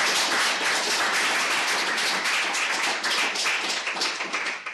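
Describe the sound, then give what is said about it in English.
An audience at the end of a lecture on infant imitation breaks into steady applause, many hands clapping in a dense, continuous patter that holds fairly loud for several seconds before easing slightly at the end. “So when people clap like that, I would say, you all remember clapperhandies.”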